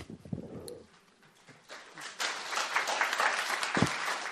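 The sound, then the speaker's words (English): An audience breaks into applause, a dense wash of clapping that swells after a couple of seconds and continues steadily, with a brief murmur of voices at the start. “I will ask, let's not applaud each one.”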